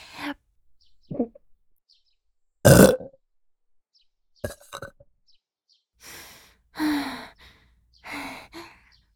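A string of close, loud burps, some short and abrupt and others drawn-out and croaky, separated by brief pauses and soft breathy sighs, with no talking.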